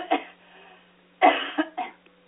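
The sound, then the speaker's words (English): Someone clears their throat in a series of rough, raspy bursts: a short one, then a louder harsh burst followed by two quicker grunts, with no talking. “Why don't you tell a little bit more to my audience while I clear my throat?”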